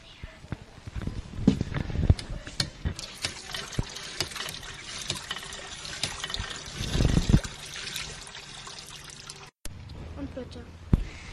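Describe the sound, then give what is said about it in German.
Water trickles and splashes steadily from a water mill at a children's water playground, with scattered small knocks and a couple of louder thumps, while faint voices carry in the background. “Hier ist der Wasserspielplatz, da ist eine Wassermühle und hier spielen kleine und große Kinder.”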